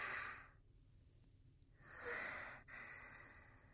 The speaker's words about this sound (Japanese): お兄ちゃんの顔がすぐ近くに。はぁはぁって荒くなった寝息、くすぐったいくらい。